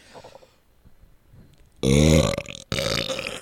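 A loud, drawn-out burp erupts after a quiet stretch, rumbling low and gravelly for about a second and a half with a brief break midway, with no talking.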